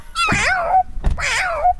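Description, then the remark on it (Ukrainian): A tall, grey-haired man imitates a cat for a gathering of children, giving two drawn-out, wavering meows in quick succession, fairly loud, with a brief breathy pause between them. “А котик как?”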